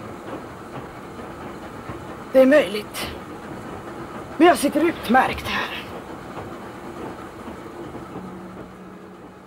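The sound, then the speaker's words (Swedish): A steady low rumble of a train carriage rolling on rails fills the background throughout, while people talk briefly over it. “Det finns gott om plats på det här tåget.”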